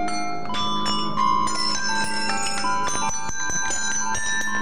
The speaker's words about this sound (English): And the bells came back.